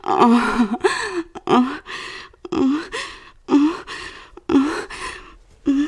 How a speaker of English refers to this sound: My breath. My panting. My moaning.